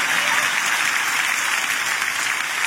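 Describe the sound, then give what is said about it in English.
A church audience claps together in a dense, steady wash of applause that holds at an even loudness for a few seconds, with no voices standing out. “if you're not clapping, I might be talking about you.”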